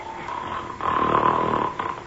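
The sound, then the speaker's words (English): A giant's loud, deep snore swells up in a long rumbling breath, roaring for about a second before easing back down. It sounds heavy, with no one talking. The giant is asleep in a clearing on the highest point of a mountain. “Whatever in the world is that roaring, snoring sound?”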